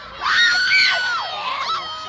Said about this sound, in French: Les cris continuent. Les jeunes Anglais n'ont pas l'air du tout de respecter la famille royale.